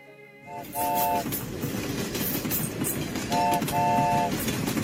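A train rumbles along steadily with a dense, continuous roar, and two short horn toots sound early on, followed by a longer pair of horn blasts later. No one speaks.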